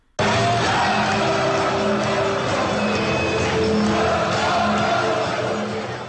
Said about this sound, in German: So jubeln 25.000 Zuschauer, wenn Alemannia Aachen ins Pokalendspiel, Niederrhein-Pokal, einzieht.